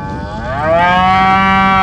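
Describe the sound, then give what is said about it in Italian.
Cows mooing as a herd runs in circles through a construction site: one long, loud, drawn-out moo swelling up and holding steady, with other cattle lowing faintly underneath and no voices. “La mandria non voleva intendere di fermare la propria catastrofica borsa attraverso il cantiere.”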